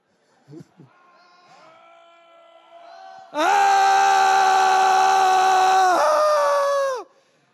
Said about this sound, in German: Was machen sie jetzt? Sie schreien alle laut vor Angst. Kann ich mal 12 Männer haben, die ganz laut schreien, wie sich das anhört?